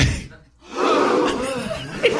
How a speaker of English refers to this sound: Can we get a gasp? But it's got to be clean, no laughter. Just everyone going.